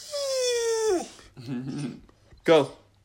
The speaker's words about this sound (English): There are other dogs here. You'll probably hear the one whining right now is Precious. That's my cousin's dog. She's a black lab, about 5 years old.